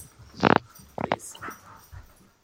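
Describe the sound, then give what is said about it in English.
A dog runs around the house, giving a few short, breathy snorts and huffs in quick bursts, with quieter scuffling between them before it fades out. “And the dog's running around the house.”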